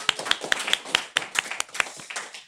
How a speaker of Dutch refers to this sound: Mag ik een heel groot applaus voor expert nummer 1